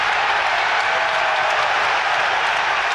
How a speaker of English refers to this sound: I like the way he said such noise and then just let the noise of the crowd go in. I mean, I'll be honest, listening to that, I felt nervous all over again, Andrew.